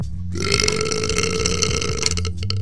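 A single long, loud burp played from a burp button rumbles for over two seconds, low and gravelly with a steady croaking texture, trailing off with a few rough sputters at the end.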